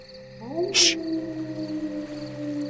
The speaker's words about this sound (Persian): آها، این سگه یا گرگه؟